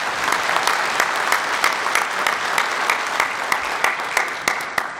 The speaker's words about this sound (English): Let's give her a round of applause and thanks.